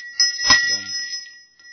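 A small hand bell is struck once, its bright, high metallic tone ringing out clearly and sustaining for over a second as it slowly fades.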